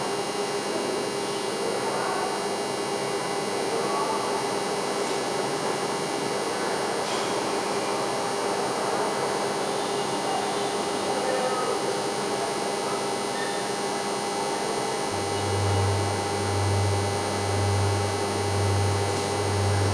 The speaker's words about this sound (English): The rooms hum with fans and overworked dehumidifiers.